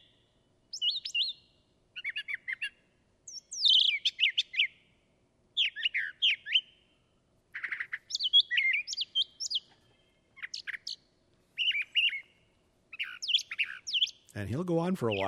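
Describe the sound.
A brown thrasher sings a long series of varied, rich phrases in short bursts separated by brief pauses, clear; a man speaks briefly at the very end.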